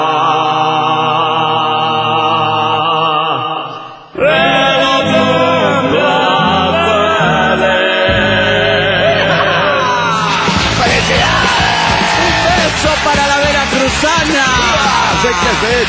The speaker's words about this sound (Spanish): Sí, no, es la multitud. Es todo el puerto de Veracruz aplaudiendo a Aqua en el día de su cumpleaños.